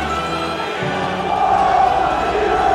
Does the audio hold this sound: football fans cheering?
yes